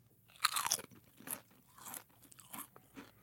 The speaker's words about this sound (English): I have 2 different potato chips in front of me right now, chip A and chip B. Okay. And I want you to tell me, based solely on the sound of the crunch, which chip is fresher, crisper, better. Okay. Okay? I'm ready. Here comes chip A.